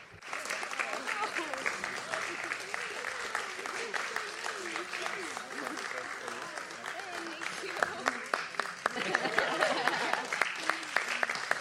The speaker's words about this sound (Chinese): 如果大家可以的话呢，请为他们鼓掌，感谢他们的卓越的工作。